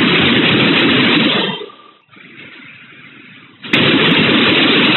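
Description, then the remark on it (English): Loud, muffled gunfire from a gunman shooting into a school classroom roars in a dense burst, fades into a quieter lull, then resumes abruptly with a sharp crack and sustained firing. No voices. “Second, a little boy emerges in the hallway after having exited the bathroom, sees the gunman at 11:33 a.m., and the resulting gunfire into the classroom.”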